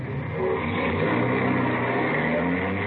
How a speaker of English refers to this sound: Starting the car. Here they come.